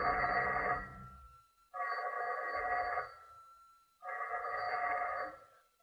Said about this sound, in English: It was shortly after 11 o'clock when I got back to my apartment. Almost at once, the telephone began ringing.